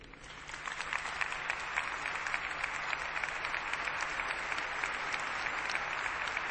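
Sustained applause from a large audience responding to the surprise announcement of an extraordinary jubilee, a Holy Year of Mercy, a dense steady patter of many hands clapping that swells quickly and holds at an even, fairly loud level without voices.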